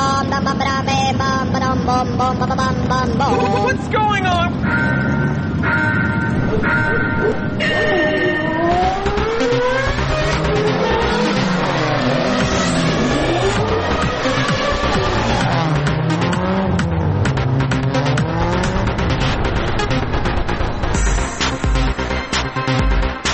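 Loud, continuous engine roar with repeated rising and falling pitch sweeps, like race car engines revving hard and passing, dense for the whole stretch, with no voices.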